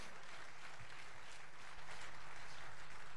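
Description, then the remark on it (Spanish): An audience applauds together in a steady, dense wash of clapping that holds for a few seconds, fairly soft, with no voices standing out: applause for Christ during a sermon. “Fuerte aplauso a Cristo.”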